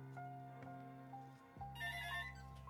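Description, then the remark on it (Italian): A telephone rings with an incoming call, steady electronic tones that shift pitch midway and brighten into a shrill burst, clear with no talking. “Allora, telefono è libero.”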